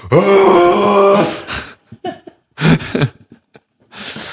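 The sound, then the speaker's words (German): A voice imitates a moose mating call: one long, low, droning groan with a strained nasal edge, followed by a few short, choppy grunts and breathy bursts. “Ich finde, es gibt richtig viele Tiere, die so einen richtig lustigen Balzlaut haben. Zum Beispiel Elche.”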